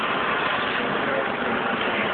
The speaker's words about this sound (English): Okay, well, we do seem to be blessed with a helicopter overhead.